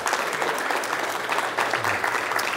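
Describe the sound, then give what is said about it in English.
An audience breaks into steady, sustained welcome applause for a woman being extended the right hand of Christian fellowship, dense clapping holding at an even loudness throughout with no voices standing out. “Let's give her a welcome applause.”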